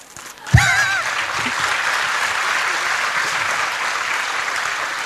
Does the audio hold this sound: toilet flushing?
no